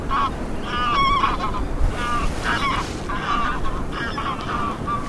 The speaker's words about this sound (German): Ich hoffe, Sie konnten, wie ich gerade, die Gänse im Hintergrund hören.